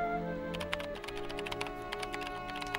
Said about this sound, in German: Schön. Da klickt's. Die Maus, die klickt, beziehungsweise die Tastatur, ne? Ich finde das schön, diese kleinen Geräusche von der kleinen Maus.